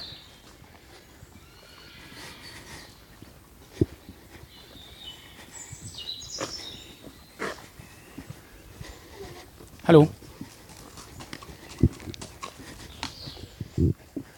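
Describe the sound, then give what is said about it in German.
Scattered hoof clops sound on a path as a ridden horse trots past, irregular and moderately loud, with faint birdsong in the background and a person briefly calling out a greeting. “Nee, sonst einfach ruhig, dann hört man auch das Traben.”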